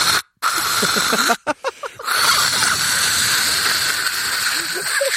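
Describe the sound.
A voice imitates a Lysol disinfectant aerosol spraying: a loud, sustained breathy hiss that runs for several seconds, briefly interrupted by a few short gaps, with faint voiced murmurs underneath.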